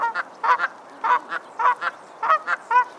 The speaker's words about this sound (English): Geese, though sometimes confrontational, are devoted parents and help maintain green spaces by grazing on grass and weeds.